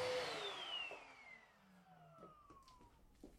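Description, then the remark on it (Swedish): A vacuum cleaner, used by a 20-year-old young man in a practice apartment during a moving-out course at Almåsa on the coast outside Västerhaninge, roars loudly, then is switched off, its motor whine sliding steadily downward as it winds down over a few seconds, leaving faint room noise and light clatter. “den som just har dammsugit heter Oliver”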